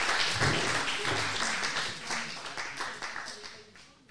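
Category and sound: crowd, audience applauding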